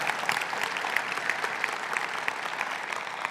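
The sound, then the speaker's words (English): A crowd applauds steadily throughout, a dense even patter of many hands clapping at a moderate, consistent level with no voices breaking through. “If you would just give another round of applause”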